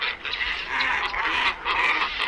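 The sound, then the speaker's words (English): A glossy ibis gives harsh, nasal grunting calls in a steady, rasping series with brief pulses, loud, with no talking. “The glossy ibis and several white-faced ibises at Horicon Marsh. Okay, glossy first.”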